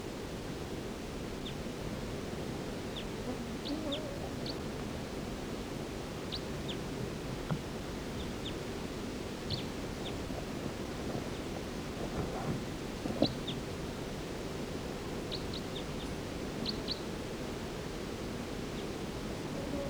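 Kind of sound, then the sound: bird, bird calling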